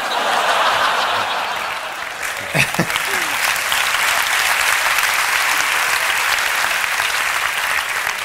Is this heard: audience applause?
yes